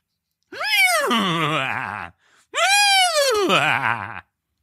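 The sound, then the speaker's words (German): A person imitates a laughing horse with two loud, drawn-out whinnies, each rising high then falling into a shaky, quavering tail, separated by a brief pause. No other talking. “Mach mal ein lachendes Pferd.”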